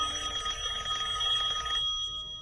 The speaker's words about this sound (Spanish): Un día de primavera, un chico está solo y aburrido en su habitación. Suena el teléfono.